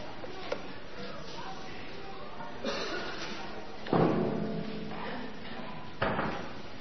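The door to the children's Bible group rooms in a new building closes with a dull, heavy thud midway through, framed by a couple of softer knocks and bumps, with faint murmuring in the background.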